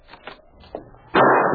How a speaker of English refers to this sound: As the door opened, the shot rang out.